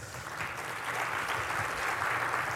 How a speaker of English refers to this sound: Oh. Can we get another round of applause for Dave?